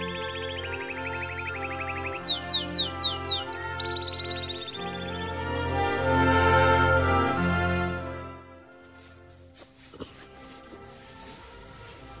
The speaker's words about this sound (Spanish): Uy, mira, por ahí he oído una paloma. Pero no sé dónde está.